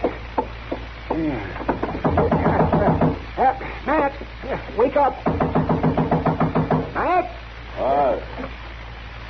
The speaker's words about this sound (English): Oh, all right. All right. Don't knock that door down.